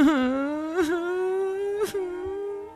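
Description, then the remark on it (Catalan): A young woman, Snow White, frightened and alone in the forest, cries in a drawn-out, wavering wail, broken twice by sharp sobbing breaths, then trails into a long whimpering moan, fairly loud with no talking. “Blancaneu, en veure sola, va tenir por i es va posar a plorar.”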